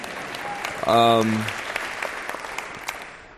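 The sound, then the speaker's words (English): An audience claps steadily in a dense patter, with a brief voice whooping near the start before the applause continues and slowly fades. The audience is clapping at a mention of the NBA. “The NBA, yeah, you can clap for that if you want to, for sure.”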